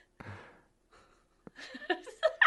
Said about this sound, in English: Heavy breathing.